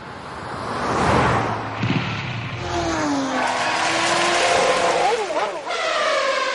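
Loud car engines rev up, their whining pitch climbing and dipping in quick bursts over a continuous mechanical roar that fills the whole stretch.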